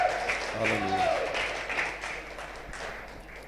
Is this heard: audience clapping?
yes